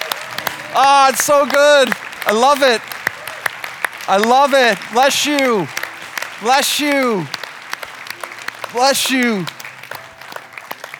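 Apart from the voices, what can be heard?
audience applauding and cheering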